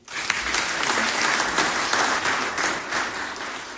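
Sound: audience applause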